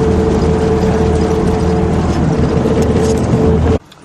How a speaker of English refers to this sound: You can see, you know, here in this, see in this big truck full of chickens, we're trying to exploit the resources of material nature.